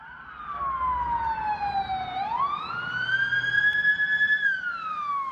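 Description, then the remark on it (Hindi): An ambulance or police siren wails steadily for several seconds, its pitch dipping, rising and falling again, fairly loud over a low traffic rumble, as ambulances and police vehicles rush to the scene of two explosions outside a stadium in Istanbul, with no one speaking. “घटनास्थल पर एम्बुलेंस और पुलिस की गाड़ियों को दौड़ते हुए देखा गया है।”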